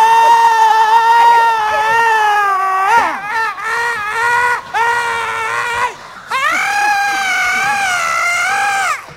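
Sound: person screaming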